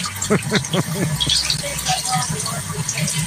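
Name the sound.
tap water running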